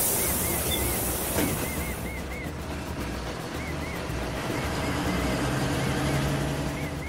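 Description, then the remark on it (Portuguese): A bus carrying three passengers to Polo Central drives along with a steady rumble of engine and road noise filling the whole stretch, broad and continuous, with faint high chirping sounds repeating above it. “Apanharam os três o autocarro e rapidamente chegaram ao Polo Central.”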